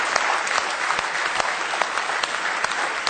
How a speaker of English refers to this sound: Let's give him a real good hand clap if you love him with all your heart this morning.